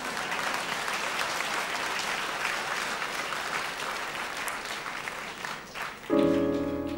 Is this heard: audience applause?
yes